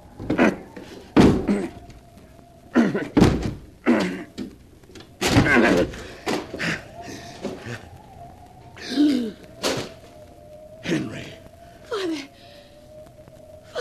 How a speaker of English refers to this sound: The door's locked. I'll have to break it down.